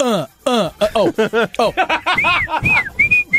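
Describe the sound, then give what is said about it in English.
A run of quick, rhythmic voiced bursts like chuckling gives way to a person whistling a few short, clear notes, fairly loud. “Damn whistle it, when you want to.”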